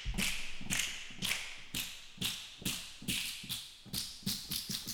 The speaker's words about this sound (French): Trouver la bonne note parce que du coup ça c'est des claquements de doigts normalement.